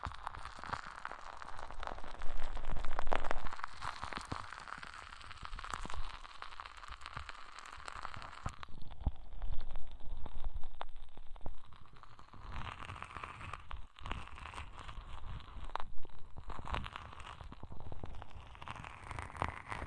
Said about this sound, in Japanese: そろそろ反対の耳やりますよ。移動しましたので、じゃ、こっちの耳もパチパチさせちゃいますね。